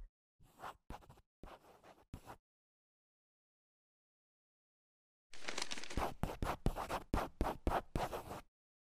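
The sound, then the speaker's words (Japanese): A ballpoint pen scratches out a signature on the back of a coupon: a few short strokes, a pause of silence, then a quicker, denser run of scribbling strokes, crisp. “あ、すいません、このクーポン裏にサインが必要なんでお願いできますか。”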